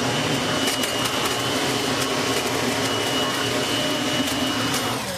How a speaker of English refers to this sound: Well, then what we have here is the 6100 mulching vac. This will vacuum your leaves and mulch them at the same time.